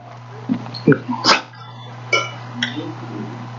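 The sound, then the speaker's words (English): A person's voice imitates a dog barking, giving about six short, sharp woofs at an uneven pace over a steady low hum, moderately loud. “First time they see you come outside, they're like, woof, woof, woof, woof, woof, woof.”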